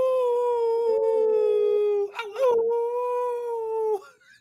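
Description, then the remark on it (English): People howl together at the full moon in long, sustained wavering tones, voices imitating wolves, rising and falling with a brief break in the middle before the howling resumes and trails off. “Come on, everybody now, no matter where you are, we're going to howl at the moon.”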